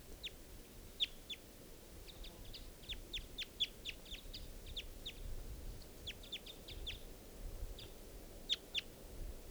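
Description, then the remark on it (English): A male wild bird perched in the trees above the net side calls at 10:11 a.m. with a long series of short, high-pitched chirps in irregular clusters, some sharper and louder than others, over a steady low rumbling background. No one speaks. “And that's the male calling there.”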